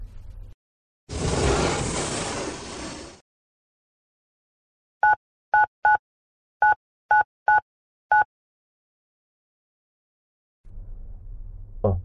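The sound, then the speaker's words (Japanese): A phone number is dialed: seven short, clear keypad beeps in an uneven rhythm, fairly loud, following a burst of rushing noise, with a quiet rumble at the end. “ちょっと電話してくる。”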